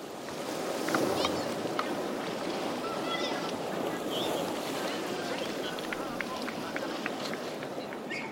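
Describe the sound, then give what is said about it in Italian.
Steady seaside ambience at Marianemi beach in Helsinki, a sandy beach with huge rocks plunging into the sea: a continuous broad wash of sea and wind, fairly even in loudness throughout, with faint voices and occasional thin high chirps in the background. “con la bici in 10 minuti sono in spiaggia, al mare, appunto, sulla spiaggia di Marianemi, dove ci troviamo ora.”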